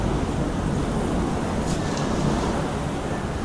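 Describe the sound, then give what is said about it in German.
Steady roar of sea surf and breaking waves mixed with blustery wind buffeting the microphone, loud and continuous throughout with no voices. “Nun ja, das Meer ist da.”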